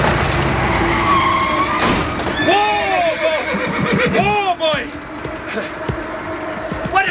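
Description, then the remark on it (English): A cart horse whinnies loudly, a shrill wavering neigh repeated in quick bursts, over a busy background of clattering and scraping noise, as another driver's vehicle nearly collides with the cart. “Your driver's nearly broke my cart and killed my horse.”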